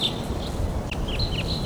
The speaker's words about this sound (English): Flying right over. So recording a little later, those birds took off and some other birds are coming in.